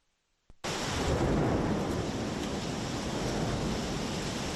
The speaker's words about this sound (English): Torrential rain hit central Athens Thursday as a wave of bad weather made its way across the country. The Parthenon atop the ancient Acropolis was barely visible in the storm.